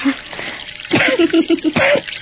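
Water sprays, drips and splashes in a quick, irregular run of wet plops, with a short burst of sputtering liquid near the end, fairly loud.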